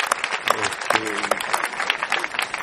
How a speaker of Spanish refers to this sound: Pueden aplaudir también, aunque sea un poco. Ahí está. De compromiso nomás.